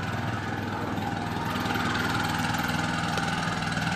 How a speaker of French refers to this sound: Là, on va mettre en route la brouette à moteur.